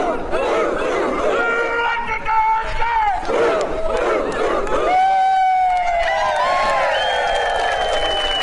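A large crowd shouts a rallying cry, many voices yelling together in loud, ragged bursts, then stretching into long, rising held calls toward the end.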